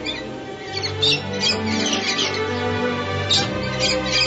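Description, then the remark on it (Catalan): Birds sing and chirp in bursts of bright, high calls over a steady, dense background, with several squawky notes standing out around the middle and near the end. “No sents els ocells? Sí, sí que els sento.”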